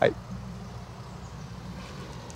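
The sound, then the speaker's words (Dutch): A car approaches with a low, steady engine rumble that stays fairly quiet and even throughout, with no sharp rise or pass-by. “Komt de auto aan.”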